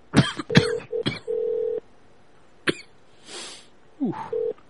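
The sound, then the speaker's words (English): Telephone line tones while a call to the Home Hotel connects through to the operator: several short steady beeps broken up by sharp clicks and coughlike bursts, a brief hiss, then one more short tone near the end. “Please hold the line to process your calls.”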